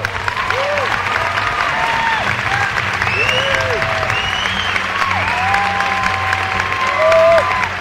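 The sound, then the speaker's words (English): A theater audience at Sundance applauds loudly and steadily for several seconds after a screening of the film The Matador, a dense wash of clapping with a few brief rising and falling whoops or whistles poking through. “It seems like The Matador is a hit, but applause is cheap.”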